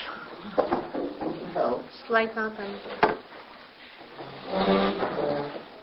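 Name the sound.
door being closed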